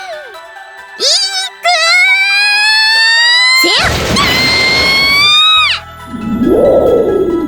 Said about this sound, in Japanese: だからっていきなり雷落とすことはないでしょ。